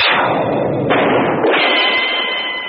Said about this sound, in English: A gun was pulled. A shot rang out. I said a shot rang out. That does it. A gunshot rang out.